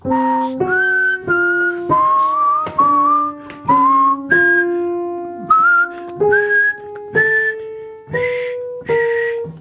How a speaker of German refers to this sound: diese Phase im Leben von Arnold Schönberg, wo er dachte, diese 12-Tonreihen, die sind so catchy, wenn ich das einfach nur durchziehe, dann wird irgendwann jedes Kind sowas pfeifen.